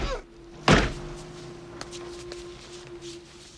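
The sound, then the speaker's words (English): A single heavy thud as a man knocks out a guard at a guard post near a pier lands sharply early on, then gives way to a low steady hum with a few faint ticks. “As the jeep drives off, John knocks out the guard.”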